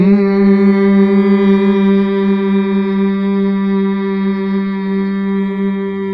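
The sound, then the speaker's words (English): A group hums together on the exhale after a deep belly breath, one long, steady low note that holds evenly for several seconds with a rich, buzzing tone. No one speaks. “And as we breathe out, that is on the exhale, is where you'll make your sound.”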